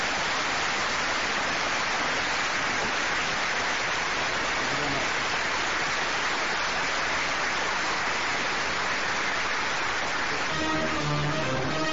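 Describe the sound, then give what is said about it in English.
A large crowd at a United States military base applauds at the close of a speech, in a dense, steady roar of clapping that holds for about twelve seconds, with a few voices rising out of it near the end. “Of course, there's going to be a rousing amount of applause.”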